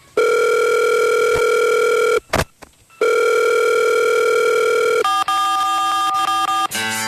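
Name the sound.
telephone line ringing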